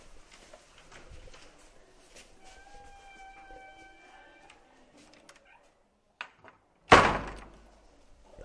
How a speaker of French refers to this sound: J'ouvre la porte.